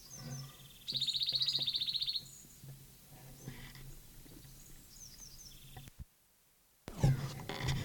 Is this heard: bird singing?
yes